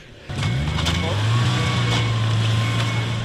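A snowmobile engine roars at a ski area in Kašperské Hory, its low steady drone rising sharply after a brief quieter moment and then holding loud and constant, with faint mechanical rattling on top.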